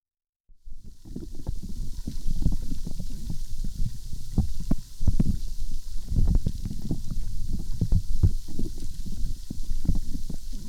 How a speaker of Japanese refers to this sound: 泡がパチパチ、シュワシュワと弾ける音、気持ちいいですよね。